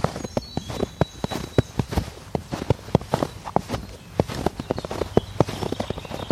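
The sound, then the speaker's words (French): Footsteps crunch through snow in a steady, even rhythm, each step a short, gritty crunch repeating a couple of times per second, with no voices. “Votre pas est léger. Cela vous apaise. Écoutez leur crissement dans la neige.”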